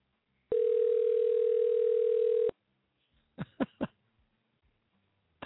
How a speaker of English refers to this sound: answer the phone